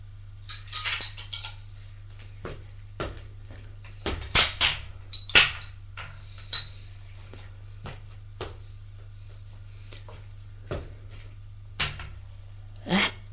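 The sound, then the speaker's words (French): Two small white bowls, a cardboard sugar box and a chipped white coffee pot are set down from a tray onto a low table, giving a dozen or so sharp clinks and knocks at uneven intervals over a steady low hum. “Il dépose le tout sur la table basse.”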